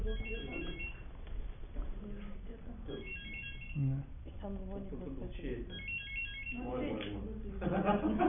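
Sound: mobile phone ringing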